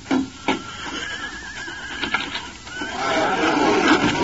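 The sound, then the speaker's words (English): A horse, the stranger's horse standing in front of the cafe in Rock City, whinnies, a long, quavering neigh rising and falling over several seconds, preceded by a couple of sharp knocking sounds at the start. No one speaks. “He noticed the stranger's horse in front of the cafe.”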